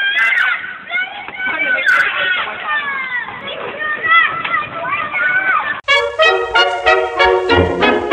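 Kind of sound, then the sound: crowd, children shouting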